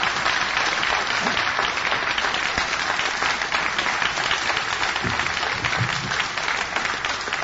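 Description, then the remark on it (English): Sustained applause from an audience for two speakers, a dense wash of many hands clapping at a steady, loud level throughout, with no voices standing out. “Okay, both speakers did travel quite a ways to be here, so if we can give them another round of applause for everything they've done.”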